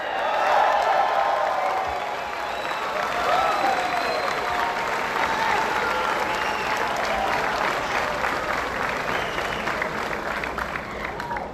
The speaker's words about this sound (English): I wish you were cheering for me with that, but I know it's all about getting home on time.